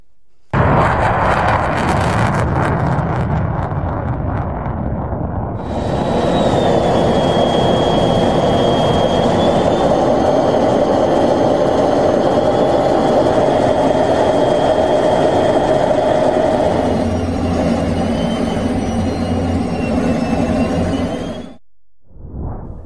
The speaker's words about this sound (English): I just want us to close with a 20-second look at some footage from the 115th Fighter Wing flying over Wisconsin. So let's take a quick look at that.